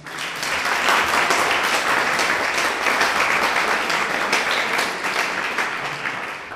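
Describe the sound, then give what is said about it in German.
An audience in Endingen applauds steadily to welcome a guest, dense overlapping claps forming a continuous loud wash for several seconds before easing slightly near the end, with no talking over it. “Begrüßt ihn nochmal mit einem Endinger Applaus.”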